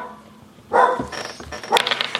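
A small, funny dog named Arne barks twice, high-pitched and fairly loud, with the yaps coming about a second apart, followed by some lighter yipping and rustling noise.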